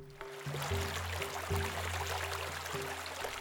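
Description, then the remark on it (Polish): A woman kneeling on a wooden plank footbridge washes laundry in a river, beating wet linen with a paddle. Water splashes and rushes steadily, with a low sustained drone underneath throughout the short stretch. “Klęknąwszy na desce, zabrała się do prania.”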